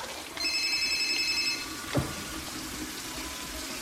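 A single burst of a telephone ringing, a steady electronic trill lasting about a second, over the hiss of running water as paintbrushes and a glass are rinsed under a tap, followed by a soft clunk.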